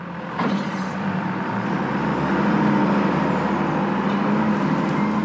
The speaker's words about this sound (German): Ein Gabelstapler rangiert auf dem Hof der Spanplattenfabrik.